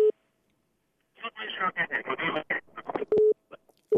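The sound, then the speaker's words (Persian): A steady electronic phone-line tone beeps briefly at the start as a listener's call connects to Radio Azadi's call-in program Velayat be Velayat amid telephone network problems, then a voice talks with narrowband telephone quality, and the same flat tone returns for a moment near the end. “فکر میکنم امروز مشکلات در شبکه‌های تلفنی هست.”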